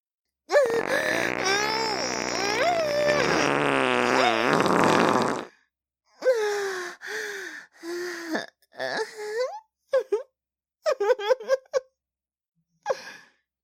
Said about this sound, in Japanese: ダメ。出る、出る、出ちゃう。お腹ぐるぐるした。臭い、すっごい臭いおなら出ちゃう。